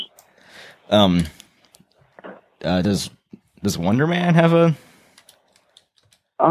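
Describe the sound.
Soft, scattered clicks of typing on a computer keyboard come in short irregular bursts, fairly quiet, between and beneath a person speaking, as someone types to look something up.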